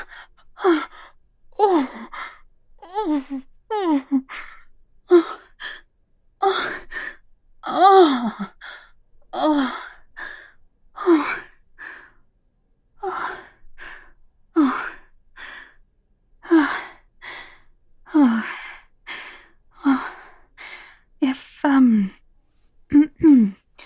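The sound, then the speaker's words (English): A loud run of heavy panting breaths, each one a voiced huff or gasp, repeating steadily about once a second with brief gaps between them. “Oh, don't stop. Oh, yes. Oh, yes. Keep panting.”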